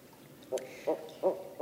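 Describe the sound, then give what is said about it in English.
Young barred owls in a family squeal to their parents in a series of four short, harsh, high-pitched squealing notes, evenly spaced, with a faint sharp chirp near the start and no voices. “Did you know what barred owl babies sound like?”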